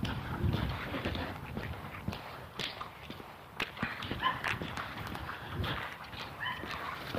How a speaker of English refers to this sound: Got a couple dogs in tow here.